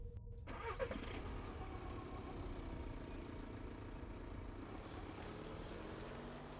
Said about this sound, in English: As soon as she was gone, I started up the engine and drove home.